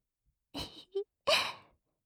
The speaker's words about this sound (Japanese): どうしました？私の吐息が耳にかかって、くすぐったい？これは、わざとそうしているんです。私も興奮してきているって、あなたにちゃんとわかってもらうために、ですよ。